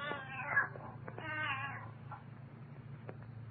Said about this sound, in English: Quiet, Ophelia. Ophelia? Huh. And what kind of a name is that for a cat?